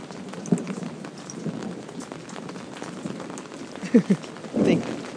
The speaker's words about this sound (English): He's in the house because that's definite thunder.